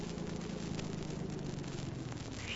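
A car engine idles after the car has pulled over, with a steady, low rumbling hum and a faint hiss on top, holding an even level throughout with no voices.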